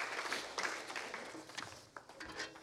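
A church audience claps together for the Lord during a worship service in a steady, dense patter of many hands, fairly soft, with no voices standing out.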